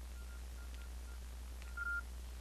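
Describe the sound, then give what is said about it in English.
Faint mobile phone keypad beeps as a 5-digit unlock code is entered: several short, quiet tones at an uneven pace, then one longer beep as the phone accepts the code, over a low steady hum with no talking. “It liked my code.”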